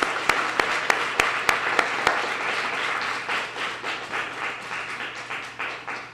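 A crowd applauds for a poet, dense clapping with a few sharp, prominent claps up front, then settling into a steady, softer wash of clapping that gradually fades.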